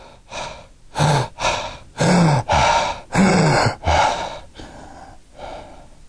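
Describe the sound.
A voice imitates Cheyne-Stokes breathing: a series of loud, rapid gasping breaths, about eight in a row, with the later ones fading softer and breathier as if trailing off into stillness before apnea.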